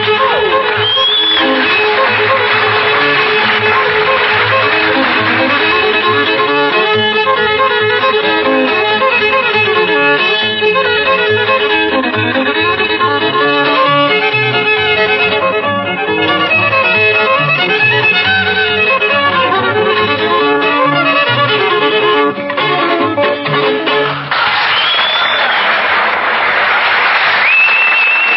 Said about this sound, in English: Thank you, …. Thank you just a whole lot. That was fine fiddling.